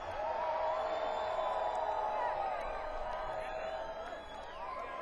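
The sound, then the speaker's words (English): A large crowd at Mayan Holidays cheers steadily for a jam band for several seconds, a dense wash of applause and shouting with scattered whoops and whistles rising above it, loud throughout and tapering slightly near the end. “So please, please, give it loud one more time”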